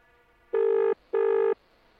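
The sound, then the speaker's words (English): A telephone ringing tone from a just-dialed outgoing call sounds in one double burst, two short buzzy tones at a steady mid pitch separated by a brief gap, fairly loud with no talking. “I've just dialed the number.”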